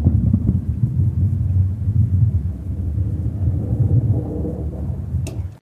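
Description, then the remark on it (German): A heavy bowling ball rolls down a lane, a continuous deep low rumble lasting several seconds before a sharp clatter right at the end, with no voices. “sagen musst du nicht mehr abspielen, Bowlingkugel. Eine Bowlingkugel, genau.”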